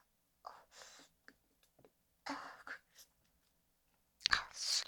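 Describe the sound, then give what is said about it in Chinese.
Wet mouth sounds of someone chewing food come in short irregular bursts with quiet gaps between them, ending in a louder, crunchier burst. No one speaks. “对，嚼它，这样，嚼它。”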